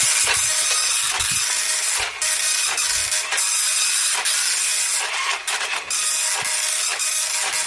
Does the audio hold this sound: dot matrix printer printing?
yes